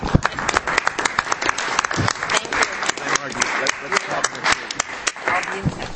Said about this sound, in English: So I think you should all say any of the old board members who want to leave now can leave. Okay, and we'll give you a round of applause, and please take a bunch of cake.